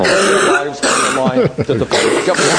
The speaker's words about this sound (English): we haven't had grandma coughing in a long time.